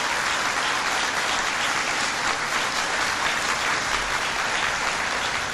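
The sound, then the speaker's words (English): Steady applause from a crowd, a dense, continuous wash of clapping that stays at an even, fairly loud level for several seconds with no voices standing out. “And that's worth applauding.”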